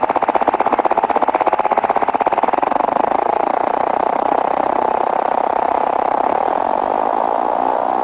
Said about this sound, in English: Now we're slowing it down to a very simple oscillation. Now I'm going to speed it up. And I'm going to continue speeding it up every so often so you can actually listen to what makes that transformation.